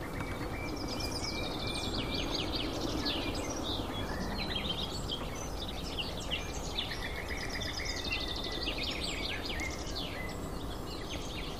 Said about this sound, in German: Bei uns heißt sie auch die Kieselsteine, weil ihr Kontaktruf und ihr Warnruf klingt wie zwei kleine Flusssteine aneinander geschlagen. So klack, klack, klack, klack, klack, klack, klack, klack, klack, klack, klack, klack. Da hören wir es hinter uns.